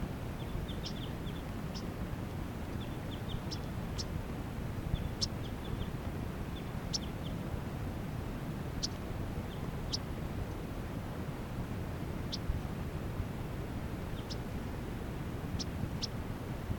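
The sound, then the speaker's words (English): Yellow-rumped warblers, at least three birds, call in flight above the net site, giving short, sharp, high chips scattered irregularly, sometimes in quick little clusters, over a steady low rushing background noise. “These are some yellow-rumped warblers flying around up above the net side.”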